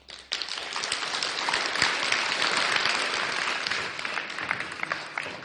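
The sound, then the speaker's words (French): A live show audience bursts into sustained applause for a guest, a dense wash of many hands clapping that starts abruptly and holds steady at a lively level for several seconds, with scattered sharper claps standing out. “Aussi, je voudrais vraiment que vous applaudissiez pour sa témérité, cet invité.”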